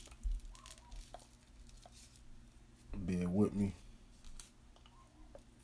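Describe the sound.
Soft crinkling and light tapping as rolling papers are handled to roll a paper blunt for smoking, in scattered faint bursts, with a man briefly speaking partway through.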